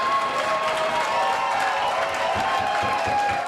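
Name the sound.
crowd cheering and applauding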